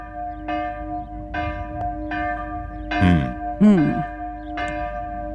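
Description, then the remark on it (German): Church bells ring in a steady, harmonious peal, their sustained tones overlapping as new strikes sound about once a second. Wind rumbles underneath, and a brief gliding whistle-like sound cuts through midway. “Schönes, harmonisches Glockengeläut.”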